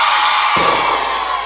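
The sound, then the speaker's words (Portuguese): A loud crowd of single women screams and whoops together in a sustained, high-pitched roar, swelling suddenly partway through and staying dense and energetic to the end. “Agora eu só quero escutar o gritinho das solteiras.”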